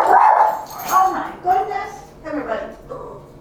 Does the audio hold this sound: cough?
no